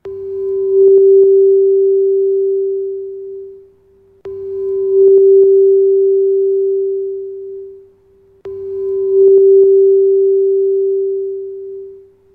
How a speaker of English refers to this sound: Get that throat chakra spinning and listen to this amazing tone.